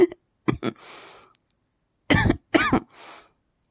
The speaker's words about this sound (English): You like me coughing?